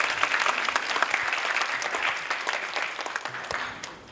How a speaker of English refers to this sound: Well, without further ado, may I please ask you all to welcome Ajahn Brahm with a round of applause.